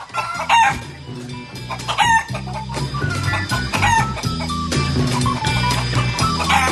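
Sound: hens clucking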